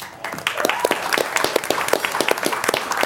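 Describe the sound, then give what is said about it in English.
An audience at the 30th year of the Columbia Forum breaks into sustained applause, a dense wash of many hands clapping at once with sharp individual claps standing out, steady and fairly loud throughout. “He really deserves, I think, a hand of applause for getting this started 30 years ago.”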